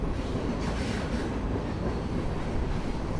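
A heavy coal train rumbles steadily overhead across a railroad trestle along the James River, carrying coal from the mountains of Virginia to the coal depot in Hampton Roads; its dense low roar and rattling wheels are continuous and fairly loud throughout, with no voices.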